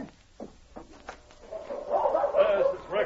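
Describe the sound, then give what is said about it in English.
A dog gives a few short, sharp barks spaced about a second apart, then breaks into a longer, louder stretch of excited whining and yelping. “Sergeant, that's Rex. I know his bark.”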